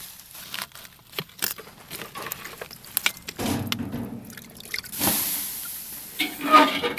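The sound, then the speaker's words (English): Water poured onto smoldering coals of a damped-down smoker fire with very little oxygen, used to smoke lobster: scattered crackles and small pops, then a steady burst of hissing steam that swells briefly and fades, with a few sharp crackles after. No one speaks. “I've got it damped down so it has very little oxygen in there, and I'm actually going to pour a little water in there.”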